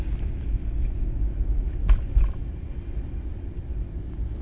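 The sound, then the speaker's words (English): Steady, deep road rumble from inside a car moving at about 25 miles an hour on a Chicago road among trucks, continuous and fairly loud, with a brief louder surge midway as if another vehicle passes. No one speaks. “I'm doing 25 miles an hour right now. And every truck is doing about 7 to 80 miles an hour.”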